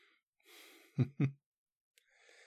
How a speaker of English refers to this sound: Wow, you seem to have gone quiet. I can hear your breathing just getting heavier.